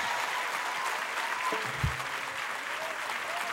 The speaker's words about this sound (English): team a big hand clap once again.